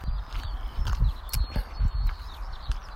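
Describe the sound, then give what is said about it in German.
Steady footsteps crunch along the edge between grass and asphalt at the side of a track, at an even walking pace, about two steps per second, fairly loud, with a soft scuff of grit and a faint outdoor hiss behind them. No one speaks. “Jetzt gehe ich wieder zurück an den Rand der Bahn und gehe jetzt einfach an der zwischen Wiese und Asphaltkante entlang.”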